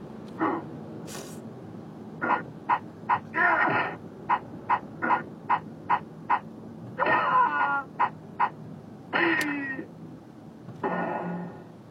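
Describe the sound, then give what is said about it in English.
Sound effects from the arcade fighting game Pit Fighter: a steady run of short, punchy punch and kick hit sounds interspersed with longer, strained cries and grunts, fairly loud, with no one talking over them. “Oh, apparently that was all the sound effects in Pit Fighter.”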